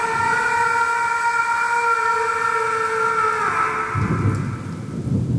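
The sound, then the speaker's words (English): Heavy rain pours in a steady, loud roar near Butler, Missouri, with a low rumble of thunder swelling near the end. A droning tonal hum runs beneath the downpour. “Then, near the limits of Butler, Missouri, a heavy rain fell with thunder and lightning to match.”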